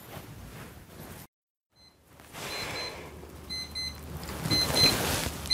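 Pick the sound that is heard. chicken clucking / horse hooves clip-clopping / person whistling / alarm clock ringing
alarm clock ringing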